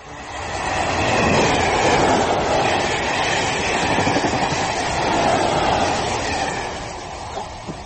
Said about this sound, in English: Did you get the number of that train? I thought you got it. Oh, you twit! If we miss a number, we have to start again from scratch.